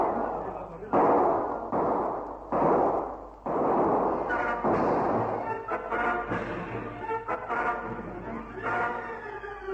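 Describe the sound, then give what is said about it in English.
Loud rolling volleys of gunfire crash out in several heavy bursts as armed men open fire in The Air Adventures of Biggles radio drama, then give way to a chaotic mix of shouting voices and scattered shots. “Haynes drop to the ground to dodge the murderous fire.”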